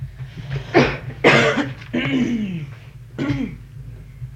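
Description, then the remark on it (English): A person coughs, four harsh, throaty bursts spaced unevenly over a few seconds, some trailing into a raspy voiced tail, over a low steady background hum. “You would call that a cough?”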